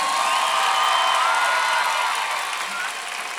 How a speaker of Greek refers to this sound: Δυνατό χειροκρότημα να ζεσταθεί.